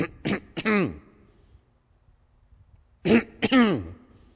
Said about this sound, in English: Clearing my throat is for a purpose.